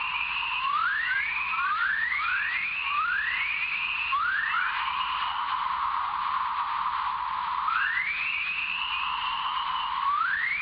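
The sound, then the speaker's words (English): Dawn chorus radio emissions recorded by a University of Iowa spacecraft orbiting in the Van Allen radiation belt, not produced by lightning: a cluster of quick rising whistle-like chirps sweeping upward, a lull, then a few more, all over a steady band of static hiss. “They're kind of rising tones, and they're not produced by lightning.”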